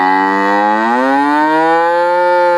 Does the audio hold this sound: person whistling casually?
no